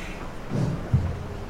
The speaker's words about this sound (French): Bonjour et merci de braver la pluie.